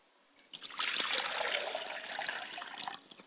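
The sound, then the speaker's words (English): Water is poured from a glass onto the ground as a libation to the north for the ancestors, a steady splashing trickle for about two seconds, starting abruptly and tapering off quickly at the end. “I pour libation to the north.”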